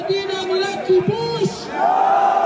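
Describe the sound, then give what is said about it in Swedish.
A crowd at the Western Wall in Jerusalem shouts back 'No' in unison in reply to a speech by Smotrich. It is a sustained chorus of many raised voices with a pitched, chant-like quality, rising louder toward the end. “Nej, svarar folksamlingen.”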